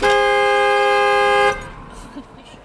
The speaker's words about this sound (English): So if you turn your car all the way off, it just starts honking? Yeah, look.